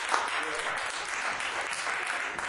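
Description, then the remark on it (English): A crowd at a live music show applauds the sound engineer in a dense, steady wash of clapping that holds at an even level without pause, with a few indistinct voices mixed into the noise. “Hey, y'all, give Evan a round of applause, man.”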